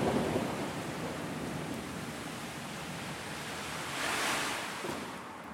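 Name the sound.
thunderstorm with rain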